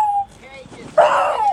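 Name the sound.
puppy whimpering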